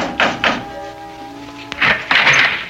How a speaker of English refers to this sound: It took me 2 full days and a night to retrace my way along the road, and the coach had brought me, and dusk was beginning to fall when, exhausted, famished, and dirty from the road, I knocked on the door of the Adams house.